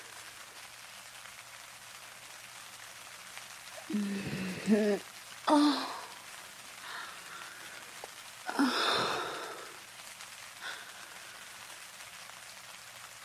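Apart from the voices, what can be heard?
rain falling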